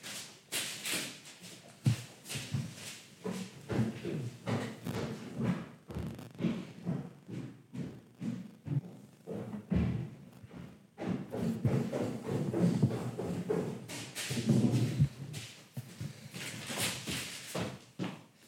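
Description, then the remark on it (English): Footsteps crunch and rustle across a kitchen floor covered in brown paper, a steady run of crisp, papery crackles and shuffles, with no talking. “if people are wondering what that crunching on the floor is, Adam's kitchen is covered in brown paper”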